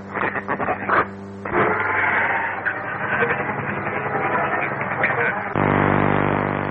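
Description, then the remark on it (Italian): A crackling shortwave radio broadcast of Radio Moscow International, thin and band-limited, with muffled voices breaking through hiss and static before settling into a steady, droning tone near the end. “Quella che sentite in sottofondo è Radio Mosca.”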